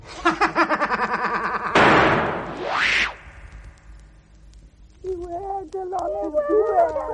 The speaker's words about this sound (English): Stop that ungrateful howling. Stop it immediately.